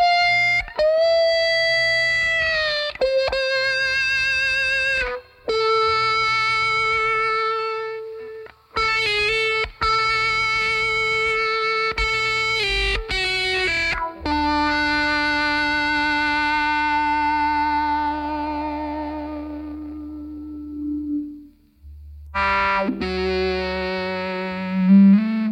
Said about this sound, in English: I think it's a phaser that's adding the extra … awesomeness. It's kind of the screaming opposite of everything else in the arrangement. And yet, it works.